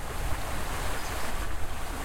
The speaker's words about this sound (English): In this case, it's probably because my recording device could start to hear the rushing rapids of the Rouge River with better clarity.